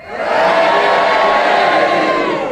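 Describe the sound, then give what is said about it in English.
An audience votes on Sheila Hancock's challenge about a 99% meat sausage, bursting into loud, sustained cheering and shouting for her that swells quickly and holds steady, with a couple of boos mixed in among the cheers. “Thank you for those two boos at the end. The cheers have it, a 99% meat sausage.”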